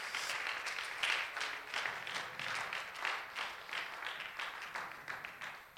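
A crowd bursts into sustained applause, many hands clapping in a dense, continuous patter that holds steady for several seconds before easing slightly at the end.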